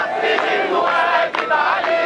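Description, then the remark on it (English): A large crowd chants together loudly in a square, many voices merging into a dense, continuous roar with rhythmic surges and one brief dip partway through. “I was fascinated to hear that alongside the musical sounds of a younger generation, among the crowds in the square, you could also hear the music of a figure who had died nearly a century ago.”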